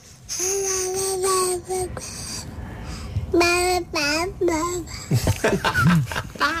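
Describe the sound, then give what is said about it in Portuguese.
A baby boy babbles in high, sing-song bursts with wavering pitch, fairly loud, pausing briefly between runs of syllables and ending in a few squeals. “Isto em bebê significa parabéns, tia.”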